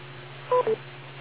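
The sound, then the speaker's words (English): A radio repeater's courtesy beep: two quick electronic tones in succession, the second slightly lower, sounding over a steady low hum and faint static hiss with no voices. “Wait for the beep.”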